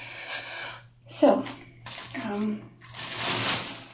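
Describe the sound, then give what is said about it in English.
A shower curtain rustles and scrapes as it is slid along its rail, a loud swishing with softer rustling earlier, while a voice murmurs briefly in between. “So, moving the shower curtain.”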